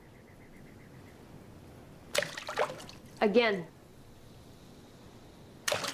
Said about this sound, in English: Hold your hand up. Palm facing me. Hit the water. What? Hit it.